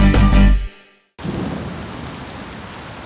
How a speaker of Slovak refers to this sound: Prší. Aké bežné počasie. Niekedy až nepríjemné. No pre nás mimoriadne dôležité.